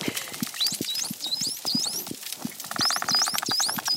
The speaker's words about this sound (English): That was a whistle exchange between three dolphins. The researchers gave them names, Kooks, Spirit, and Guppy.